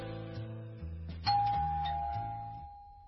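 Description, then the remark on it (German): A doorbell at a house door chimes: a bright, clear tone strikes partway through and rings on, slowly fading, over a low sequence of stepping tones. No one speaks. “Ich nahm gerade ein spätes Frühstück ein, als es an der Tür klingelte.”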